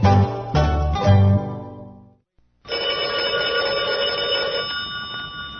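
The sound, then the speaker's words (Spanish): A telephone bell rings loudly in a few quick bursts, goes briefly silent, then a sustained ringing tone follows, clear with no one speaking. “Tu teléfono puede ser protagónico en un programa radial. Ese programa está ahora en el aire y aguarda por tu llamada.”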